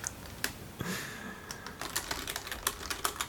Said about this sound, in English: Both gentlemen are frantically typing away, trying to explain what the secret barrel of secrets is.